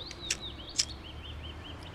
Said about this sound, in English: Crow came back. Named it Malenki. I know, a little on the nose, but I like the name.